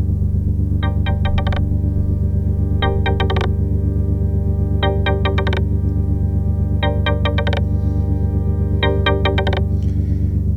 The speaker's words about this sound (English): I did add one little thing, and that was I added a ping. There he is. It's a bouncing ball ping.